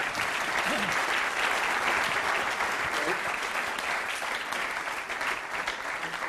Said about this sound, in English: Well, let's just firstly give you a round of applause.